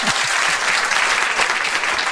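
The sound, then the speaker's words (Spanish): Steady applause from a crowd for a guest, dense clapping filling the whole stretch at an even, fairly loud level with no voices standing out. “Entonces he pedido un aplauso para él.”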